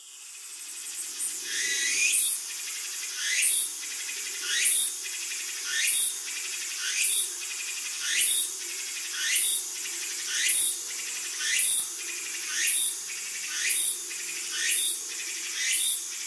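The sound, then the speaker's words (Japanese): A cicada calls loudly, repeating a rising, buzzing phrase roughly every second in a steady rhythm over a constant insect drone, with no voices present. “あ、今度はおちんぽにセミが止まって。”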